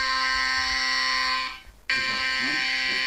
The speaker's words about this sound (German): Erst dann ertönt ein heftiger Alarmton auf dem Handy der rund 20.000 Nutzer mit Katwarn-App im Kreis.